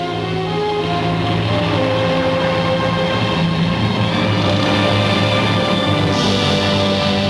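A passenger seaplane's engine roars loudly and steadily as it skims on its belly across the water of a bay, streaming water in its wake, then lifts off: a thick droning hum with a rushing hiss that swells slightly toward the end. No one speaks.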